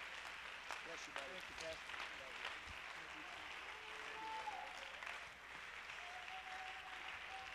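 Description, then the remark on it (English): A large church audience claps continuously to the Lord as a pastor comes up, a dense wash of applause filling the space, with a few voices calling out faintly beneath it. “Oh, come on, let's clap our hands unto the Lord.”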